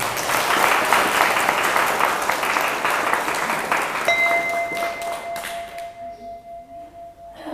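audience applause

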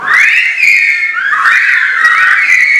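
silbo Gomero whistled language

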